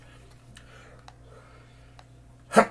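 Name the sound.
human sneeze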